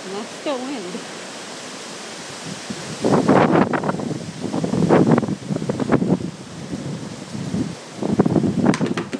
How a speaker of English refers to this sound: And that was one of my chairs blowing over and leaves falling on me.